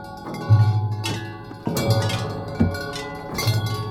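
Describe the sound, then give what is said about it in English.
Tubular bells are struck about four times, each a bright metallic clang whose rich overtones ring on and overlap with the next strike. Moderately loud, with no voices. “On tubular bells, the cute but rascally Jojo.”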